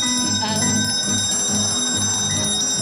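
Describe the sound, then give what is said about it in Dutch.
A doorbell rings with bright, sustained metallic tones that hold steady throughout, over a low, pulsing rumble underneath. “En dan belt er iemand aan haar deurtje.”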